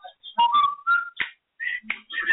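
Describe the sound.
Someone whistles the theme from The Andy Griffith Show: a short, bouncy melody, a string of clear, high notes in quick phrases with brief gaps, fairly loud and with no talking over it.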